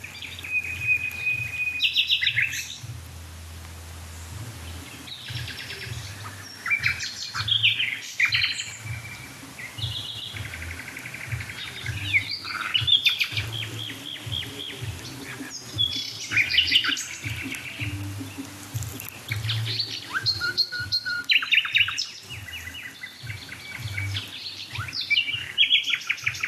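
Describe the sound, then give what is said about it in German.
A house nightingale sings in bursts of bright, varied phrases, including a repeated piping note, over a steady low hum, with other birds chirping faintly throughout; no one speaks. “Die da mit dem Düt, Düt, Düt, Düt. Das ist die Hausnachtigall.”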